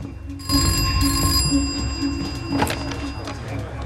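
A telephone rings in an office with a bright, bell-like electronic tone that starts abruptly and sustains briefly, then trails into a pulsing hum and room noise, moderately loud.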